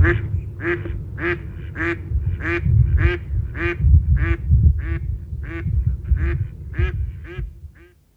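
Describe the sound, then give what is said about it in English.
A female duck quacks loudly and harshly in a steady, evenly spaced series of about a dozen calls, over a low rumbling background. “Here's the male with his rather quiet sort of and now you can hear the female, who makes a really noisy quack.”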